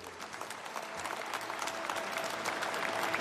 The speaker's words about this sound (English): Applause for Dikembe Mutombo at the Basketball Hall of Fame.